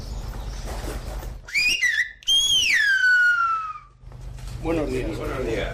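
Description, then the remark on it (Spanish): A loud, piercing human whistle in Silbo Gomero, the whistled language of La Gomera, giving the greeting "buenos días" in two gliding phrases, the first short and rising, the second long and slowly falling in pitch, reproducing the sounds of spoken Spanish, with faint murmur before and after. “nuestro silbador, está demostrando que en realidad el silbo reproduce los sonidos de una lengua.”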